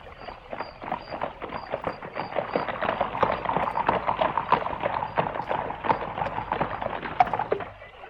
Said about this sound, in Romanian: Când tocmai da să plece, fata zări gonind năvalnic dintr-un luminiș o caleașcă de poveste.